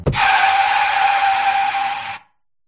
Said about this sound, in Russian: Я дал по тормозам.